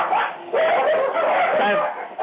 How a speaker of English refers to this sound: And now you can hear all the little doggies going. Do you hear that?